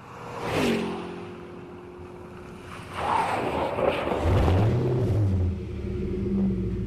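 A car's internal combustion engine runs steadily with a low, throaty rumble, its pitch rising slightly as it revs partway through, with some breezy background noise.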